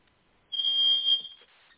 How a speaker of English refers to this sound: I'm sorry, this fire alarm keeps going off because the lightning struck the building or whatnot, so it just keeps going off.